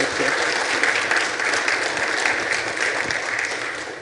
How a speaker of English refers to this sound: Can we give her a hand clap as she comes this morning?